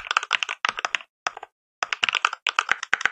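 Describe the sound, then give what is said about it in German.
Rapid mechanical keyboard clicks of simulated Cherry switches played from a keyboard sound app, in crisp, uneven bursts with brief pauses between flurries of keystrokes. No voices. “Also du kannst zum Beispiel hier eine Cherry-Taste, ich weiß gar nicht, ob du das hörst, ich spiel's mal ab, sonst schneiden wir es rein.”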